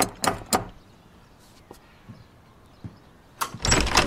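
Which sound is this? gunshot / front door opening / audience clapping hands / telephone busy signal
front door opening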